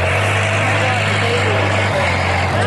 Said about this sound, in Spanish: Un vehículo pasa a toda velocidad.